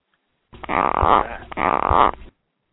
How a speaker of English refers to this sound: Sorry, those are some gecko noises. Wow, that was what that was? I thought my phone was breaking.